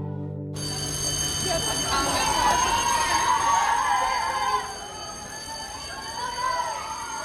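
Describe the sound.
A school bell rings for the second long schoolyard break after two more lessons, continuously for about seven seconds, a loud, steady, bright metallic ringing with a high shimmer, while a faint murmur of voices runs underneath.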